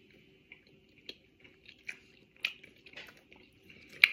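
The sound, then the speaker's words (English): A series of sharp, crisp crunches and snaps from biting and chewing a hard strawberry Pocky stick, irregular bites growing louder toward the end, with no talking. “I was trying to bite through the stick.”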